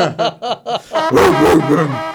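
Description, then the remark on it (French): Three drug-sniffing dogs held on leashes by gendarmes bark: four quick, evenly spaced barks, then a louder, longer burst of rough, overlapping yelps and barks that fills the rest of the moment. “Alors, trois chiens renifleurs de stupéfiants.”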